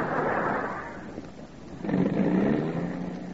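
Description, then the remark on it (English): A bus engine churns and sputters, dipping briefly before surging back up in a loud, rough rev, with no voices. “what's wrong with the bus?”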